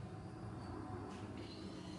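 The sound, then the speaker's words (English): A steady, low rumbling drone of Los Angeles city ambience, with airplanes and construction work, like an airplane passing overhead, holding an even level throughout with a faint higher hiss on top and no voices. “This is the actual sounds of Los Angeles. Airplanes. Work being done.”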